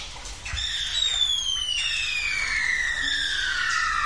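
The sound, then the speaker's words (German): Long, sliding bird squawks and shrill cries glide steadily downward in pitch, layered over a low, steady rumble of a song intro; no one speaks. “Also da, bei den Geräuschen habe ich mich auch gefragt, es geht irgendwie um irgendwas Vögel? Mit irgendwas mit Vögeln.”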